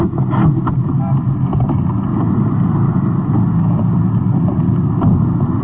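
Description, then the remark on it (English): A police detective unit's car swings into the curb beside a liquor store, its engine a loud, steady low rumble with a rough, breathy wind-like hiss that holds throughout without fading or stopping. “Swinging into the curb, the liquor store on the right, held up a few moments ago.”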